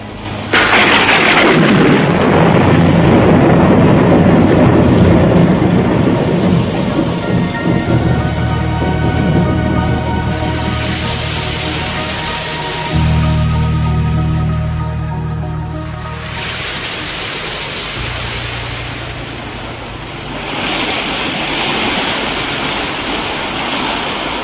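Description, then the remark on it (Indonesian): A loud thunderclap bursts at the start and rolls into a long, deep rumble, followed by the steady, heavy roar of pouring rain that swells and eases in waves. “Dan ledakan petir seolah panglimanya yang mempunyai kemampuan kanuragan yang sangat tinggi.”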